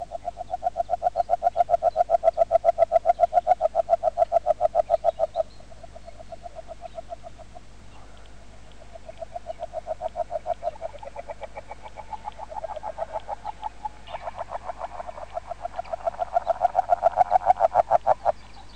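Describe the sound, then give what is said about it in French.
An agile frog, a small brown frog with light spots on its back and a pointed snout, calls in long, rapid runs of soft clucking notes, the series swelling and fading several times, clear with no voices. “une petite espèce de grenouille brune, tachetée de clair sur le dos, avec un museau pointu.”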